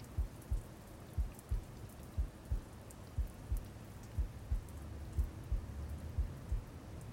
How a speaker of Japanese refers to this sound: こうすると、偽りの機械の音ですが、私の心音が聞こえて安心するでしょう。